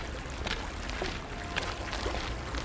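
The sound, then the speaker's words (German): The small, shallow Hase river, carrying barely any water, trickling steadily, a soft continuous watery murmur with a few faint gurgles and splashes rising now and then, quiet with no voices. “Der kleine Fluss, Hase genannt, führt kaum Wasser.”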